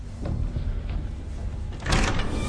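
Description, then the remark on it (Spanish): A door opens near the end with a brief, fairly loud whooshing slide, following a couple of seconds of steady low rumbling room noise and faint knocks. “Al oír la puerta, entra rápidamente en una salita donde hay una máquina de Coca-Cola.”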